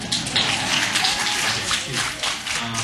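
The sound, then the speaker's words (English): A concert audience claps steadily for about three seconds in answer to a question about how many were at the other concert: a dense, even patter of many hands at a fairly constant level, with no clear voices standing out. “First of all, let me just ask, how many people are here that were here for the other concert? By applause, because I can't see.”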